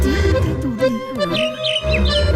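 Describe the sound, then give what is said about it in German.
Seagull calls: a wavering, squawking cry rises and falls over about two seconds, joined by brief high chirps, all fairly loud against a steady low background. “Ich bin eine Möwe.”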